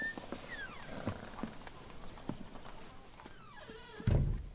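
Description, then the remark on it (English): A shop's front door, left open just a crack, creaks open slowly, its hinges squealing in drawn-out, wavering tones with a few light knocks, then a soft low thump as it settles. No one speaks. “Miss Helga had left the front door of the shop open just a crack”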